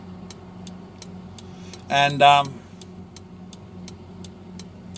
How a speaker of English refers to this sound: Turn on my blinker.